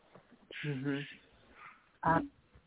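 A small dog gives a drawn-out, wavering yelp, then after a short pause lets out one sharp, loud bark, with faint noise in between.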